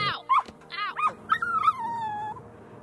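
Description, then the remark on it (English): A puppy yelps in a few sharp, high-pitched cries after being kicked in the ribs, then lets out a long, wavering whine that slowly falls in pitch. It is fairly loud, with no talking. “Not only that, 3 months later, my opponent was captured on tape kicking a poor defenseless puppy in the ribs.”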